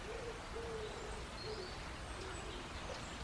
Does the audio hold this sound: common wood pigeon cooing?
yes